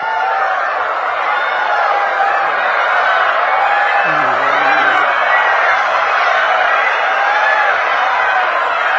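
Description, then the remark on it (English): A crowd of voices imitates peacock calls, a steady, loud wash of overlapping high, wavering cries and whoops lasting the whole time, with no clear pauses or individual words. “And all the boys would start dancing like peacocks and making the sounds of the peacocks.”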